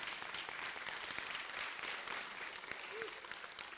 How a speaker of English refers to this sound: Come on, give the Lord a hand clap, a praise.